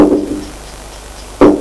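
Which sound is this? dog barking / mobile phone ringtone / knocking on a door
knocking on a door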